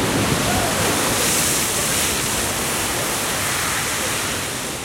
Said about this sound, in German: Manchmal hört man natürlich auch was, manchmal hört man Geräusche und oft genug sind das Geräusche, die man nicht sofort zuordnen kann. Zum Beispiel Geysire.